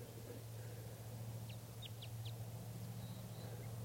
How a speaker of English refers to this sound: This bird is giving a few song phrases. Definitely type 5.